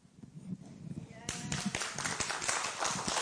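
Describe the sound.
An audience breaks into applause partway through, a dense, steady patter of many hands clapping that follows a few seconds of low murmuring voices and stays fairly loud to the end.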